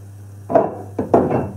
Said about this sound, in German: mal eben meine Pfanne versorgen.